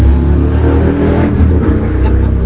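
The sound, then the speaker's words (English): A fire engine passes by, its heavy engine rumbling and revving loudly and steadily throughout, a dense low roar with no voices over it. “Fire engines.”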